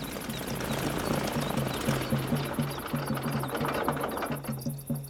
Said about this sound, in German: Ah, jetzt landet das Flugzeug.